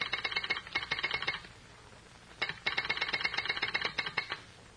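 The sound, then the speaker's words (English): Two bursts of a rapid, rattling electric signal buzz, each lasting over a second with a short pause between, sounding like an incoming call signal at a station. No voices. “Somebody calling the station. Wait till I answer the signal.”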